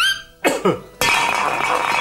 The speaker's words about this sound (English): And then with a sort of cough and a pan lid falling on the floor, rolling around a bit.